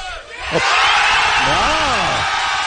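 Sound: audience applause and cheering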